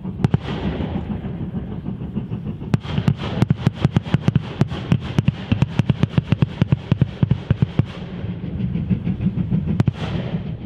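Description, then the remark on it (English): Sharp, loud bangs crack off in a rapid irregular series over the steady rumble of a passing train, bursting out as railway track torpedoes are set off under its wheels. “And oncoming trains would just roll over a set of these. They detonate with a series of bangs.”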